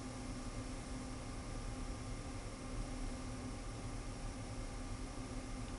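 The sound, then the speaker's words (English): A hair dryer blows steadily for the whole stretch as someone blow-dries their hair, a constant whooshing rush of air with a faint motor hum underneath. It is fairly quiet and even, with no talking. “I pick up the hair dryer and I blow dry my hair.”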